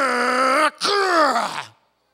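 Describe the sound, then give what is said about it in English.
A voice imitates a toy truck engine, the way little boys do when they grab toy trucks: a loud, sustained rumbling vocal drone, breaking briefly, then a second revving burst that slides downward and fades out. “Little boys grab trucks and go,”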